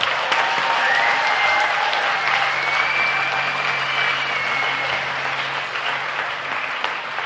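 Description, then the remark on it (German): An audience applauds steadily for several seconds, a dense, even wash of clapping that holds at a strong level throughout with no talking over it. “Applaus”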